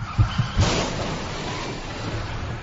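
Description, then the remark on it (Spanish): A car engine surges with a few low thumps, then a loud burst gives way to sustained rushing noise like tires skidding, with no voices. “Lo peor que te puede pasar con la cocaína no es que acelere tu corazón, es que acelere tu coche.”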